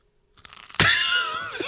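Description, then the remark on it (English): A few faint crackles, then a loud, sustained crunch of toasted brioche French toast made live on a Civic Media morning radio show, bright and rasping as it carries on for nearly a second without any talk. “Oh, that's some crunchy toast.”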